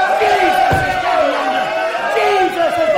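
An audience shouting and cheering together, many overlapping voices rising and falling in a loud, continuous clamor with no single speaker standing out.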